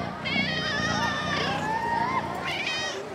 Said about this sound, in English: Yes, I've got lots. Meow. Huh? Meow. Meow. They're so cute. I think they like you.